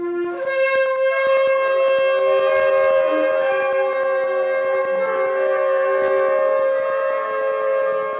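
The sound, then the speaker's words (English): Several shofars, blown by a group in a practice round, sound together in one long, unbroken tekiah gedolah, the players holding the note as long as they can, their brassy, wavering notes overlapping and holding steady and loud for the whole stretch, with no talking. “So we just hold that note as long as we can.”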